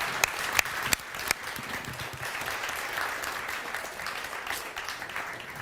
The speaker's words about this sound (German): Eben bei den Proben hat sie immer bei Applaus gebellt. Wollen wir mal kurz applaudieren, mal sehen, ob sie es wieder macht?